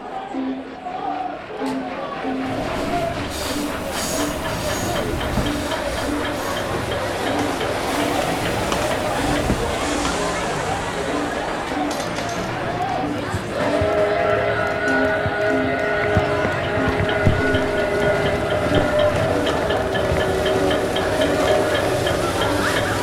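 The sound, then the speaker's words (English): Bustling railway station ambience as in the station's heyday, partly from actual vintage recordings made at this station: a constant crowd murmur under loud hissing steam and rumbling trains, with a steady, sustained whistle-like tone joining about halfway through. “Go ahead through either of the main doors, and while you do, let's recreate the sounds you would have heard back in the station's heyday. Some of these sounds are actual vintage recordings made at this station long ago.”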